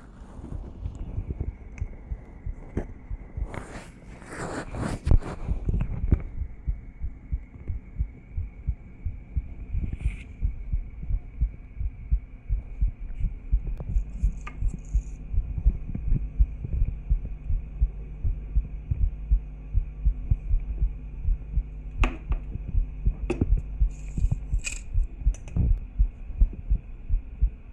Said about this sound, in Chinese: 我的心跳可能会比较快，但是很正常的，我没病。不准乱说话啊，要不然不给你听了。那你听一听。